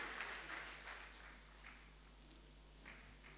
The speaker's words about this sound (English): Come and give Jesus a big clap, prophet, and take your seat.